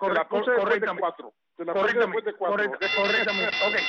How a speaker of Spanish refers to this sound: Porque tú dijiste, ponme la campana de 3.